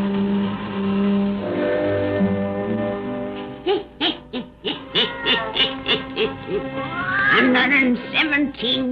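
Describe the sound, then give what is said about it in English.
A black cat named Satan, the Witch of Salem's cat, meows and yowls in a quick series of short, bending cries, ending in a longer rising wail, over a steady low droning tone that fills the opening seconds. “Satan, her wise black cat.”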